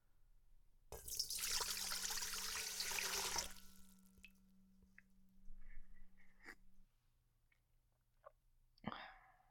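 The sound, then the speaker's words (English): Water gushes loudly from a tap into a dog's water bowl for about two and a half seconds, then cuts off, followed by a few soft clinks and a brief clatter. “Might as well fill his water bowl and food while I'm here.”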